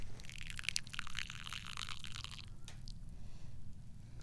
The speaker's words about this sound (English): He pours the tea into the tiny cup.